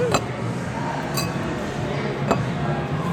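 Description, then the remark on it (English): Three bright glass clinks ring out about a second apart, like glasses touched together in a toast, over a steady low murmur of background chatter. “So, you know, cheers to the Amacon Mahale.”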